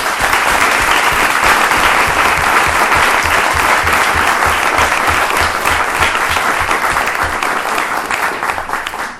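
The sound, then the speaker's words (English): A large audience claps steadily and loudly for honoree Mr. Robert Ricciardelli, a dense continuous wash of applause that holds strong for several seconds before beginning to taper off at the end. “Please give a strong round of applause for Mr. Robert Ricciardelli.”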